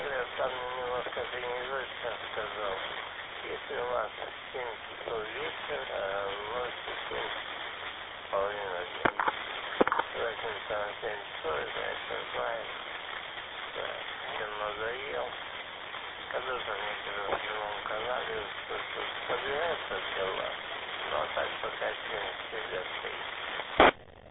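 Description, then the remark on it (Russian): A voice comes through a noisy amateur radio channel during poor propagation conditions, thin and muffled under a steady hiss of static, with occasional sharp crackles and pops breaking through for the whole stretch. “сегодня что-то прохождение паршивое, что ли. Что-то с трудом разбираю, что ты говоришь. Треск, шум, практически ничего не принимаю.”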